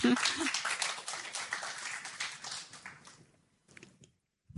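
Audience applause for a volunteer at a Sunday church service: a dense wash of many hands clapping, loud and steady for about three seconds, then quickly fading out into near silence.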